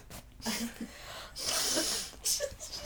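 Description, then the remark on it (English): Someone blows their nose close up: a few loud, airy, honking bursts, the longest in the middle, separated by short pauses. “just blow your nose.”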